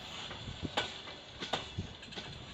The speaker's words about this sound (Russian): Поезд медленно тронулся, постепенно набирая скорость. Дженнифер еще видела, как Джон махал ей из окна, но через несколько мгновений последний вагон с грохотом пронесся мимо нее.